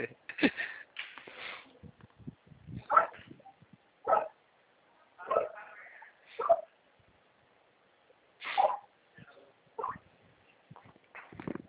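dog barking and yipping

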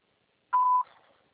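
voicemail recording beep

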